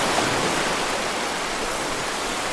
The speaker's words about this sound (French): Et ça le fait tout de suite avec quelques bruits de glaçons ou de vagues.